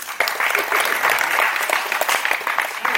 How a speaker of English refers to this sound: Understood? Clap.